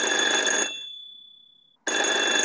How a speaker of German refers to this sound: Hallo, hallo? Das Telefon.